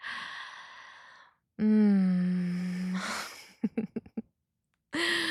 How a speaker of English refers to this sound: Oh, you're so cute, gasping for air.